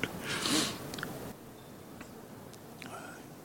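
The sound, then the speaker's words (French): Faint mouth sounds of someone chewing coca leaves during a rest break at about 4,800 metres altitude: a soft rustling crunch at first, then scattered quiet clicks and smacks against a hushed background, with no talking. “Évidemment, à cette altitude, 2-3 fois par jour, il y a une pause pour mâcher de la coca qui est bienvenue, parce que 4800 mètres, l'oxygène est rare et c'est assez fatigant et assez essoufflant.”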